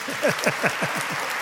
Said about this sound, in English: This is a surprise that I'm the first preacher to use this place. Can you clap for me, really?